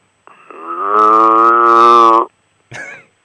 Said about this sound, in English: then they said, oh, by the way, a half mile away and it's downwind, your neighbors have, on both sides of the road, they have cows.